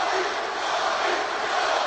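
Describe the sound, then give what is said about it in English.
A loud, steady roar from a pro-Lakers, pro-Kobe Bryant basketball arena crowd cheering, a dense wash of many voices that holds at full strength throughout without breaks or distinct words. “Well, obviously, pro Laker crowd here and pro Kobe.”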